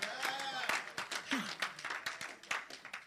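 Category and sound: crowd, audience applauding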